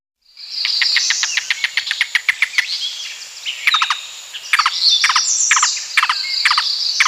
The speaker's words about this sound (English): Yellow-billed cuckoo.